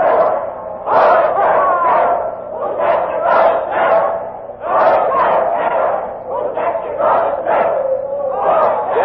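A large crowd at a hanging chants a doggerel loudly in unison at the hangman, 'Poor Jack Ketch, whose neck you're going to stretch', many voices rising and falling in a steady, rhythmic singsong, repeating the short rhyme over and over.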